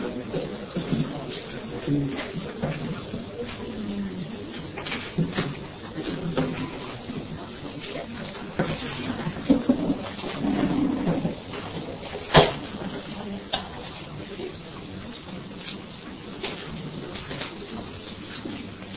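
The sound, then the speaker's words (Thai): Chairs are lifted and shifted around a room by people helping to move them, with scrapes, shuffles and soft knocks, and one sharp thud stands out midway. Muffled voices carry on in the background throughout. “การเตรียมเรื่องอพยพเก้าอี้นี่ช่วยมาช่วยยกเก้าอี”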